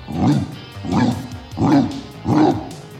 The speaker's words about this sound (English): It was Rambo. He came loping out of Maggie's backyard like a big racehorse, and his bark rattled windows all over the neighborhood.